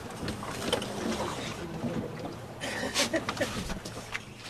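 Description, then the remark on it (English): A small motorboat cruises across turquoise sea toward the green coral island of Île aux Aigrettes, off southeast Mauritius. Its steady engine hum blends with continuous rushing water and wind noise, loud throughout, with a few brief splashes. “Our small motorboat is heading for the green, idyllic-looking coral island in front of us, Île aux Aigrettes, in the southeast of Mauritius.”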